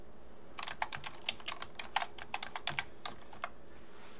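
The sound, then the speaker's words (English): Rapid clicking of keys on a computer keyboard as a shell command, 'echo $REC' followed by tab, is typed: a burst of about a dozen crisp taps in an uneven typing rhythm, with a short pause before a few final keystrokes. No one speaks. “So if I type in, for example, what I just did, echo space dollar REC tab, I got nothing.”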